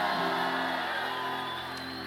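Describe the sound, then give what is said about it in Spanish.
A large crowd shouts and whoops a victory cry together in a loud, sustained roar of voices for about two seconds before easing slightly toward the end. “Alguien está supuesto a pegar un grito de victoria aquí.”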